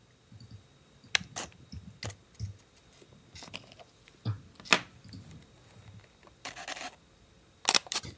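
A Fuji X-Pro1 digital camera is switched on, then clicks through a sequence: sharp isolated shutter snaps, short whirring focusing sounds, and tight bursts of rapid clicks in continuous shooting mode, with quiet gaps in between and no talking, before being switched off.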